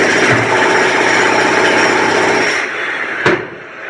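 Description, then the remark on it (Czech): Construction power tools at rebuilding work in Zagreb's city centre after the earthquake, amid scaffolding and cranes: a loud, steady mechanical whine and rumble drones for over two seconds, then eases off, followed by a single sharp bang before a quieter tail. No one speaks. “Skele, dizalice, građevinski radnici rade u punom zamahu”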